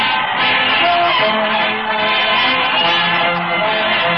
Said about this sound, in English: There's an enthusiastic throng following the parade to the old Town Hall tonight, folks.